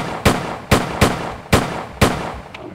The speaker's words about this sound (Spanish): Apunté mi arma a su rodilla y disparé 6 veces.